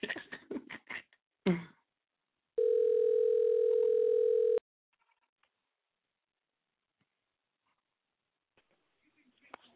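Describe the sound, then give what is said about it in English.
A single steady electronic ringback tone, the buzz of an outgoing phone call ringing, lasts about two seconds after a brief burst of voice, then near silence with faint rustles follows. “Oh, he's ringing.”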